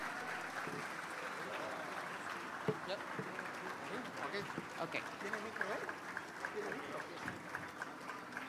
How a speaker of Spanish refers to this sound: Que se escuchen los aplausos para la próxima presidenta de México, la doctora Claudia Sheinbaum Pardo.